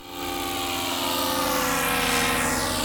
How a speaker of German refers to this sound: Über vielen Weihnachtsbäumen werden in diesem Jahr kleine ferngesteuerte Flugobjekte schweben. Drohnen sind angesagt.